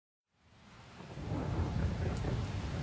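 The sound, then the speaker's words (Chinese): Rain fades in from silence as the sky darkens and clouds cover the sun, building steadily into a heavy, dense downpour, with a deep rumbling undertone like thunder beneath the hiss. No voices. “突然，天空变暗了，乌云遮住了太阳，天开始下雨了。刚开始雨不大，后来雨下得越来越猛”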